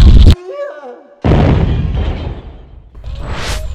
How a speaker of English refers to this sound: After the second explosion, the fire brigade finally arrives on the scene and puts out the fires.